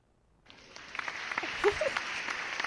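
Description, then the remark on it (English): A short burst of polite applause from the audience of a CITR show welcoming a guest: scattered, moderate handclaps that start abruptly and keep up a steady, unhurried patter, with no cheering or talking over it. “That's a very polite clap.”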